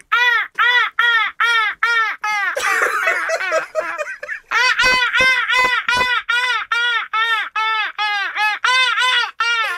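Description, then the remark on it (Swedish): A rapid series of loud, nasal gull calls repeats in quick rhythm, several birds crying, with a brief burst of rougher squawking and a few sharp knocks midway. “Det var ganska bra måsar.”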